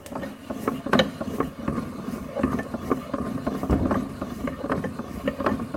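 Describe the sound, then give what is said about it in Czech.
A hand-cranked Holstein-type butter churn at a museum, churning cream into butter, working steadily, its gears giving off a continuous run of rattling clicks and knocks over a low mechanical rumble, with no one talking. “To je máselnice typu Holštín.”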